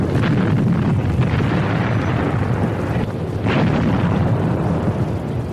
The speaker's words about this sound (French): L'artillerie russe les pilonne.